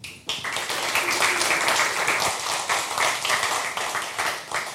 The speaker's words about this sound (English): Please give him an applause and welcome him.